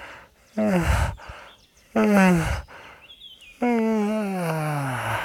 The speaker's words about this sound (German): Und zum Abschluss machen wir das, die Stimmübung, die eigentlich jeder von euch kennt und lieben gerne macht, morgens und abends. Wir gähnen und räkeln uns.